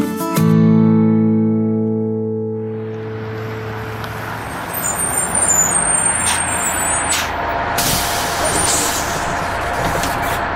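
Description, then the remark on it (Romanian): A bus pulls to a stop and a boy gets off: a low droning engine whine gives way to a long, loud hiss of air brakes, with high squeals and clanks near the end. No one speaks. “Ionuț a coborât din autobuz unde s-a întâlnit cu tatăl său.”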